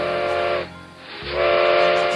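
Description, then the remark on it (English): A steam train whistle, heard through giant redwoods, gives two loud, hissing blasts with a brief dip between them, the second swelling back up and holding strong. No one speaks. “Hearing the train whistle through the giant redwoods, Tiny Tim decided not to stay here either.”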